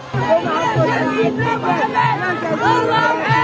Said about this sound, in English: There's a constant refrain in this crowd that people are happy, but Al Jazeera knows nothing. It's an extremely festive crowd. People are celebrating what they believe a significant strategic gain by Muammar Gaddafi's forces against the rebels here.